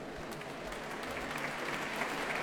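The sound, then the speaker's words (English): Steady applause from a concert audience at the Proms for the Capuçon brothers, violinist and cellist, before they perform Brahms' Double Concerto with the Orchestre Philharmonique de Radio France, a dense patter of many hands clapping at an even, moderate level with no voices standing out. “And that applause for the brothers Capuçon.”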